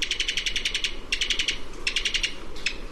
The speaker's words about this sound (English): This staccato call comes from the throat of a Cuban toady. A bird that's almost indescribably cute, and the top of the must-see list of any birder heading for the West Indies.